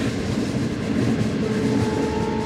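A train rumbles steadily along the tracks, with dense low-frequency clatter and a faint high whine emerging partway through; loud and continuous, with no voices.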